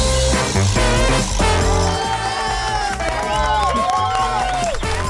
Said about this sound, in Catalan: Aplaudiments en directe, i aquest últim programa, que no podia ser d'una altra manera, el fem des de l'estudi, eh?